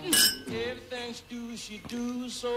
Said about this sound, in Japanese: ちょっとそれ聞く前に乾杯していいですか。 ああ、どうぞどうぞ。 じゃあ乾杯。乾杯ですかね。 はい、 はい、 乾杯。